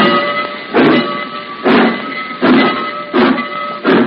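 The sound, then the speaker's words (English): A steam train engine chuffs in heavy, regular bursts that come slightly faster as it is started again and gets moving, over a steady hiss and a faint high whine. No one speaks. “Hey, Brownie, get that engine started again.”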